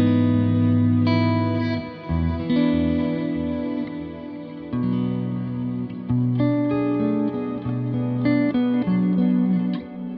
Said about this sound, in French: On entend une quinte. De délai un peu shimmer quoi. Ouais, ça rajoute une en fait l'octave plus quinte.